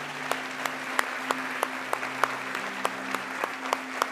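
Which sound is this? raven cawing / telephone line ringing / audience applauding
audience applauding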